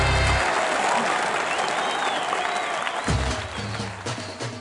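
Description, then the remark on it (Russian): Steady, dense applause from a large audience fills the whole stretch, loud and continuous, with a brief low musical swell at the start and a few faint tonal notes near the end, in a radio promo for the show Аплодисменты, маэстро on Govorit Moskva. “Аплодисменты, маэстро.”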